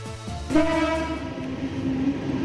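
A suburban train in Sydney, Australia rumbles, its horn sounding a sustained, steady tone over the low mechanical roar of the cars, with no voices.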